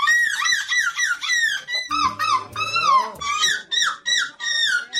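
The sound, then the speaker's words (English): Contestants at an annual seagull imitation contest in the Belgian coastal town of De Pan imitate seagull calls: a rapid, loud series of shrill, wavering squawks that rise and fall in pitch, repeating almost without pause for several seconds. “Now, last month we told you about an annual seagull imitation contest held in the Belgian coastal town of De Pan.”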